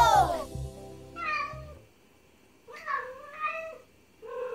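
A short musical burst opens, then a cat meows about four times in quick succession, clear and fairly loud, with brief pauses between cries.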